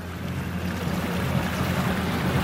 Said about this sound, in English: Speeding through the clear waters of the Red Sea around Sharm el-Sheikh, you can see just how beautiful this place is, rugged mountains and pristine shores.